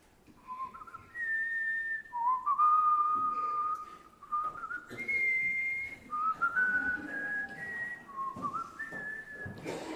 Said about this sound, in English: I want you to raise your hand if you can name that tune. Okay, I'm going to whistle it. Okay, here we go.